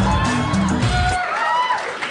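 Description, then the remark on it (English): A crowd cheers loudly, a dense, steady roar of many voices with a few higher shouts rising above it. The sound holds throughout without pause. “Yeah, well, you can hear it in the crowd.”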